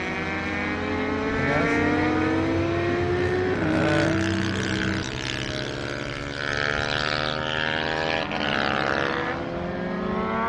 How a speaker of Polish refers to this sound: jedzie Tomek, kolega z zespołu Piotrka, na takim samym motocyklu. One mają taki charakterystyczny niski dźwięk.